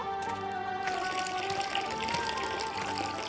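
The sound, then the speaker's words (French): Water pours in a steady, continuous stream for a few seconds, splashing softly into a container as the animals of a camp are watered, with a faint tonal backdrop underneath. “Abreuvant et prenant soin des animaux de son camp.”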